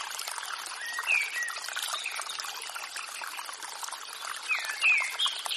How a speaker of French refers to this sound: Le doux cliquetis de l'eau vous berce et vous ressource.